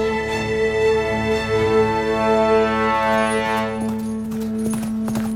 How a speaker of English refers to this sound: I'm riding a horse. Digging my heels into her flank, I gallop into perdition.